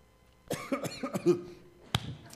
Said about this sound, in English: I'm not choked up. I'm just choking.